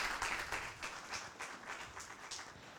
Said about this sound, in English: And I'm really excited to hear about that. Big applause. Thank you.